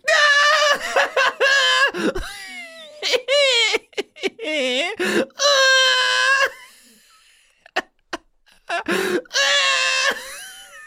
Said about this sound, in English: You're screaming. Are you gonna say you're not laughing?